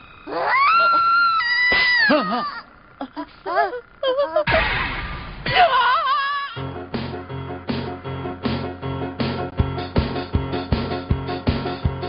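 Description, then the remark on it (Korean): A frog croaks in a quick, steady series of throaty pulses that repeat fairly loud. Before it come high, wavering squealing calls and a short burst of noise. “웬 개구리냐?”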